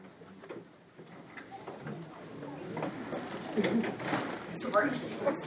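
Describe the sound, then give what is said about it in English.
A door handle is rattled and tugged a few times to check whether the door is locked, giving short metallic clicks and clunks, with people murmuring in the background. “See if that door is locked.”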